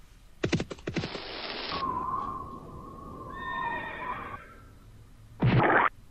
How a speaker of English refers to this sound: Horse galloping.